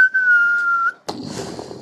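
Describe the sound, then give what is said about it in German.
An approaching Stuka dive bomber's high, steady whistle slides slightly downward in pitch for almost a second, then breaks off into a sudden loud crash with rough, rumbling noise trailing after. “Du sitzt da im Regen und lauscht den näher kommenden Stuckers.”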